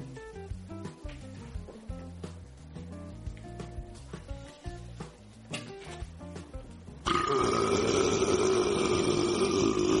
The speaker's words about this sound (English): Did you hear that? I could burp like that too if I had a drink or something other than green beans.